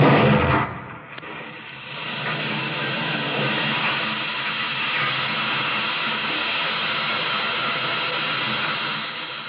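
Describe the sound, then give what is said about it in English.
Oil drilling and pumping machinery in Osage, Oklahoma: a heavy blast-like thump opens, then a loud, steady roar of hissing, rumbling mechanical noise carries on without pause as oil gushes from the red soil. No one speaks. “The voice of the drill, the pump, the blast, and then the rich black oil gushing from the red soil of Oklahoma.”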